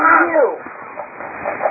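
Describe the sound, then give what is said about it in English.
A child's voice imitates an angry cat with a short, harsh, squawking cry right at the start, then trails off into quiet, rough breathy noise. “Let me help you with that mad cat sound.”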